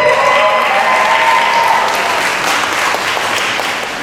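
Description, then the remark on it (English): A large crowd applauds steadily for about four seconds, a dense, loud wash of clapping with shouts and whoops of cheering rising over it early on, then easing slightly. “I'm also glad that you guys are a super enthusiastic crowd, because you guys were popping for Cosplay Insanity before they got to the stage.”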